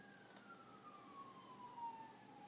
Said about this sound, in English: There's sirens outside.